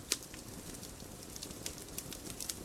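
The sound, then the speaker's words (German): A quiet, steady campfire crackle as marshmallows are warmed over it: irregular sharp pops and snaps scattered over a soft hissing bed of burning, with no voices. “Oh, das hat geknistert.”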